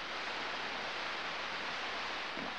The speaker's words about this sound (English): These are sounds from space, from beyond our solar system. It sounds like any static. The universe is full of it.